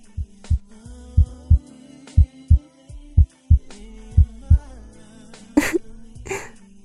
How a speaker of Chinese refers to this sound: 你听到了吗？你的心跳声现在大到离谱呢，我离你这么近，当然能听到了。怎么，和姐姐躺在一块儿就这么紧张？你的心啊，跳得都快跳出喉咙了呢。